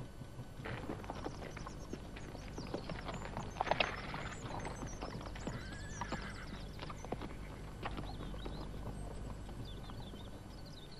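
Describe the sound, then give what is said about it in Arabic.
Horse hooves clip-clop in a steady, dense rhythm as a horse runs off on its own, with a horse whinnying partway through amid busy background noise. “من ذاك الذي فر؟ ما من أحد، إنه حصان لنا، قد فر وحده.”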